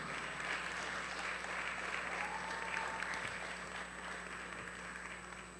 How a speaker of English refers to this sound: Oh, I like you. Please keep on clapping.